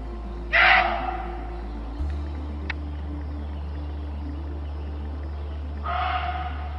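Two harsh, raspy screams from a muntjac deer, about five seconds apart, the second trailing into a hoarse tone, over a steady low hum with no one speaking.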